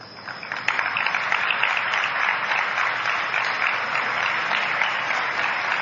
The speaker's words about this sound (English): No, I didn't ask you to clap. I said those guys clapped, okay?